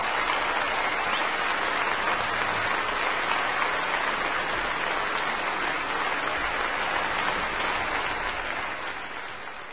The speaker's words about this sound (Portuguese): Primeiro você ouviu a música, depois os aplausos como reação à música, uma espécie de recompensa ao intérprete.